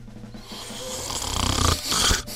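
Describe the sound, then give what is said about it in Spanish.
A loud snore with a rough, rattling rasp that builds over a couple of seconds and then cuts off abruptly, with no talking over it. “No, esta no soy yo. Esa, no, no, por eso. Yo ronco con más elegancia.”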